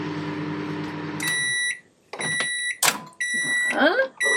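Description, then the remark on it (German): A microwave oven hums steadily while heating something for about a minute, then gives a series of sharp electronic beeps, followed by the clunk of its door and some handling noises. “Die wird jetzt erhitzt. Sag mal so eine Minute. Die piept auch so schön.”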